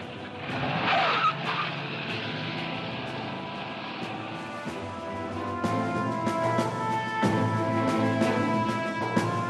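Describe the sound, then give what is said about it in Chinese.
A car engine revs and pulls away with tires squealing and skidding, loud, the roar swelling again in the second half with no voices. Vice President Truman's car rushing off after a phone call from the White House. “放低电话，二话不说就冲出门，上咗汽车。”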